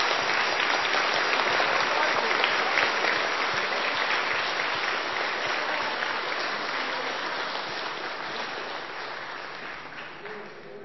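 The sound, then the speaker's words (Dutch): Sustained applause from an audience for two choirs, a dense wash of many hands clapping that fills the whole stretch and slowly eases in loudness toward the end, with no voices on top. “Hey, zullen we nog één keer een groot applaus geven voor beide koren?”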